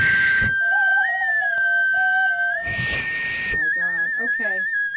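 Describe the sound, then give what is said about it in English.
Small frog-shaped whistles blown together, holding steady high tones with a few warbling trills, broken by loud breathy hissing bursts at the start and in the middle. “Your frog is not working”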